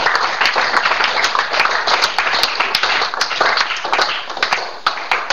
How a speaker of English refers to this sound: Hallelujah. Amen. Let's give Jesus another clap offering.